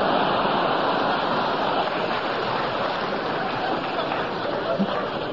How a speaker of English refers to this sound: Brilliant gag. A brilliant gag. It deserves the applause.